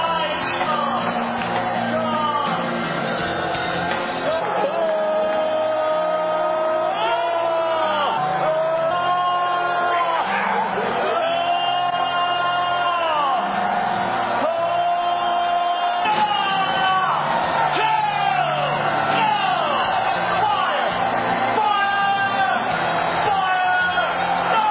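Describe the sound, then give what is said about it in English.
A large crowd of people with hands raised screams, wails and shouts "fire" continuously as Dr. Michael Brown lays hands on their heads, many overlapping voices rising and falling in loud, frantic cries that fill the whole stretch without pause. “So he's putting hands on their heads, all these people, who hands up screaming and wailing, as you heard, and just shouting, fire, fire.”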